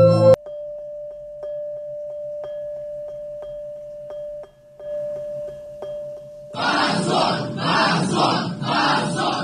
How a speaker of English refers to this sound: Immediately, everybody started shouting. Shame on you. Shame on you.